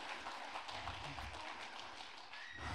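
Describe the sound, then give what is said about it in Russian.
A few slow, limp hand claps, soft and uneven, spread over a faint hiss of background noise with no clear rhythm. “О, похлопай, похлопай, это такие будут вялые хлопки вообще-то, я понимаю.”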